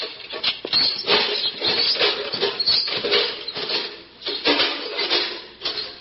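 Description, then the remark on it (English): A dense, busy chorus of small birds twittering at dawn, with rapid overlapping chirps and fluttery flurries that keep up steadily and fairly loudly throughout, with no voices. “Squire Sancho, I shall expect to be called with the first twitterings of the birds.”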